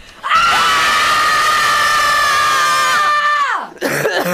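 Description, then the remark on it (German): At a demonstration, a crowd of women and queer people screams out their rage and power together in one sustained, high-pitched collective cry lasting about three seconds, then it falls away into scattered voices and crowd noise. “und da werden Frauen und queeren Personen in verschiedenen Ländern dieser Welt und in mindestens 35 Städten in Deutschland eine Minute lang all ihr Wut und Power in der Welt schreien. Da gibt es hier einen kurzen Vorgeschmack für euch.”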